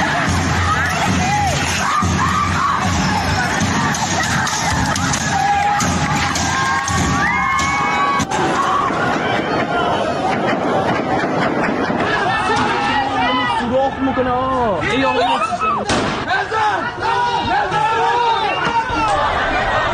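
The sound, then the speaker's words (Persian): A large crowd of protesters in Iran shouts and yells continuously in the street, many voices overlapping in a dense, loud roar with rising cheers and sharp cries throughout. “در همه موارد تجمع‌های اعتراضی با گاز اشک‌آور، تیراندازی و ضرب و جرح معترضان از سوی نیروهای امنیتی و انتظامی روبرو شد.”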